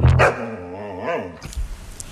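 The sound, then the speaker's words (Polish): A shepherd dog lets out a sharp, loud bark, then a drawn-out wavering whine that rises briefly in pitch before fading, followed by a moment of quieter scuffling noise. “Owczarek.”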